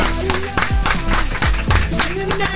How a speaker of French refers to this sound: Applaudissements pour notre invité du jour